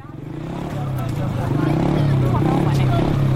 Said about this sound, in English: A boisterous crowd gathers around a battered old motorbike in South Sudan's largest camp for displaced people, near the battle-scarred northern town of Bentiu. Then, at the press of a button, this two-wheeled radio station bursts into life.